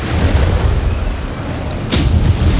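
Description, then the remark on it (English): A heavy, rumbling crash of thunder rolls through a loud, continuous storm roar, with a sharp burst near the end over the steady low-frequency din. “You call this a storm?”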